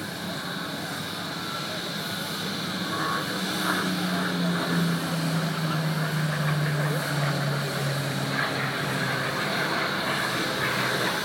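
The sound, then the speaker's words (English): A loud 12-cylinder, 1,500-horsepower Merlin V12 piston aircraft engine drones steadily throughout as a narrow-fuselage plane with elliptical wings passes, its deep throbbing tone sliding slightly lower in pitch midway, with a broad rushing roar around it. “And that, along with its very, very narrow fuselage and the amazing performance of the Merlin 12-cylinder engine, which developed 1,500 horsepower”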